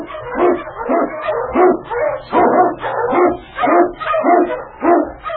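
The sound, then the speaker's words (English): King, an Eskimo lead dog, barks loudly, about eight full-throated barks in a steady, insistent rhythm with brief yelping edges, no voices alongside. “King, the swiftest, strongest of Eskimo lead dogs, blazes the trail through storm and snow for Sergeant Preston as he meets the challenge of the Yukon.”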